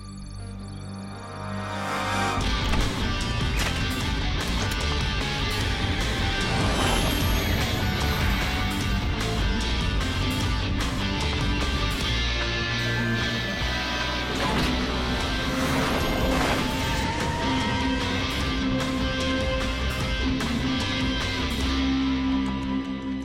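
A loud, chaotic crash with metal banging and clattering over a heavy, continuous rumble as an armored car is attacked by a masked attacker, sustained for about twenty seconds with repeated impacts and no voices.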